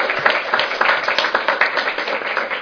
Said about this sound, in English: Let's give another round of applause for all of our panelists.